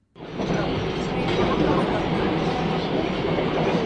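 A subway train in Seoul, heading to Noranjin, a neighborhood filled with private academies, rumbles along the rails, a loud, steady roar of wheels and carriage noise that starts abruptly and holds constant throughout, with a faint clatter beneath it.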